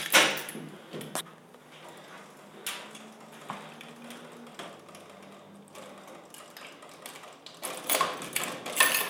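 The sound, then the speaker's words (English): The inner door of a building's front vestibule is unlatched and opened, with a series of sharp clicks, rattles and scrapes from the handle and frame, ending in a louder burst of mechanical knocks. “So here we are in the front vestibule. That's the inner door.”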